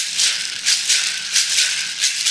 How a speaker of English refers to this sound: Gourd rattles, which, as you noticed, are shockingly loud. And in a place like Mondoro with no actual traffic, you can hear them for miles around.